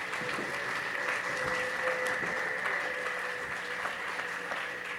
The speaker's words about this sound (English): I'll give it one more minute. They're going to do that for you. Okay, get ready. 1, 2, and 3, go. Give them an applause. Thank you.